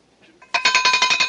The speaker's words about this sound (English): For supper, I ring the bell.